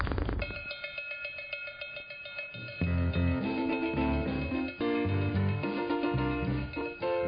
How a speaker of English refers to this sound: I was just about to say, this song needs more cowbell.